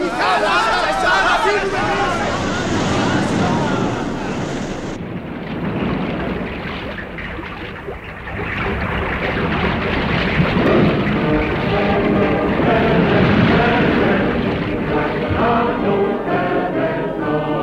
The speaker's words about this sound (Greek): Μα τι συμβαίνει, κύριε, τι συμβαίνει, Θεέ μου, τι συμβαίνει? Θάλασσα, θάλασσα, θάλασσα, θάλασσα χύθηκε στην οδόν Άλεμπη.